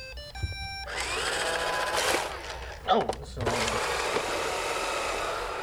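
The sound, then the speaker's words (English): A short electronic chime gives way to a steady mechanical whir, a robotic vacuum cleaner starting up after its clean button is pressed and running, with a brief voice speaking over it. “Yeah, but they're robotic vacuum cleaners. You press the clean button and you walk away and they clean the house.”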